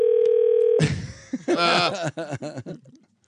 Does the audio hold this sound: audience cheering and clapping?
no